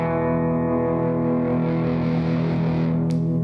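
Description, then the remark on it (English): A sustained electric guitar note starts fairly clean, then grows gradually grittier and more overdriven as the distortion thickens, ending with a brief crackle. It plays alone with no talking. “But what's cool is to have that on the overdrive of my guitar, so I have like a clean sound that like smoothly gets more distorted.”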